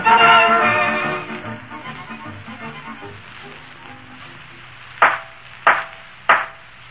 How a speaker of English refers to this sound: Judge's gavel, McGee. It's the only knock that ain't a boost. Silence in the court.